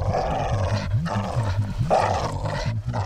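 A free-roaming dog growls low and continuously, its rumbling snarl rising and falling in pitch for a few seconds. The sound is fairly loud, with no voices.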